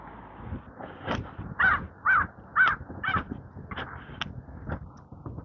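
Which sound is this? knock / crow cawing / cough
crow cawing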